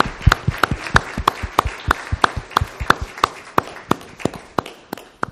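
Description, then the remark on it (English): Steady, evenly spaced hand claps ring out, sharp and fairly loud, with a soft wash of scattered clapping beneath them and no talking, as an audience applauds to thank people for their work. “So let's just give everyone an applause here just to thank them for all the wonderful work that they have done for us.”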